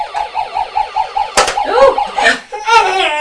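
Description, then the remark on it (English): A toy fire engine siren plays a quick, steady run of electronic warbling tones, broken by a sharp knock partway through, then continues with shifting, wavering siren notes. “The fire engine's doing it too. The fire engine does it as well.”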